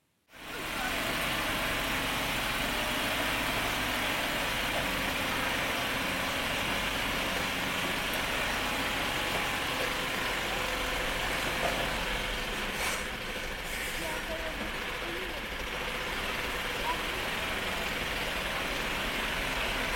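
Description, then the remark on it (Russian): A diesel car engine idles steadily, a constant low rumble with a rough mechanical texture that holds at even loudness for the whole stretch, with no voices. “Но такой же полезный, удобный, самое главное, дизельный.”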